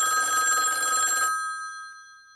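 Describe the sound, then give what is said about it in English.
A telephone bell rings loudly for just over a second, a dense metallic jangle with bright sustained tones that linger and fade after the clapper stops, heard alone without any talking. “Oh, I'll get the phone”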